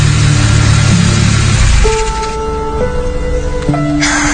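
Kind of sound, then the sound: vehicle, car engine revving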